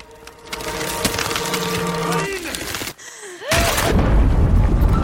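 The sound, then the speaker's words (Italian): Ice cracks and splinters loudly with sharp crunching snaps over a tense, droning backdrop, then a brief hush before a heavy crash of breaking ice as a young girl falls on the ice and sinks into the water. “Cade sul ghiaccio.”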